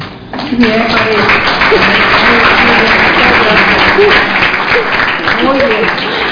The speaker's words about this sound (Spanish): Desde luego le brindamos un fuerte, fuerte aplauso.